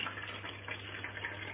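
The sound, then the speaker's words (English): Photographic fixer is poured carefully and slowly into a Patterson film developing tank: a steady, quiet trickle of liquid, a continuous gurgling splash over a faint low hum, with no one talking. “So I'm just going to pour that carefully into my Patterson tank.”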